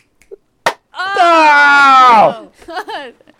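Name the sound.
group clapping in unison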